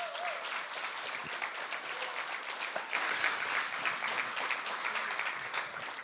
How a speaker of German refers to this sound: Wow. Cool, lasst uns denen mal einen Applaus geben für ihren Mut.